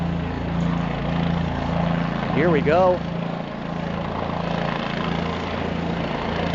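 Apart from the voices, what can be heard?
helicopter flying overhead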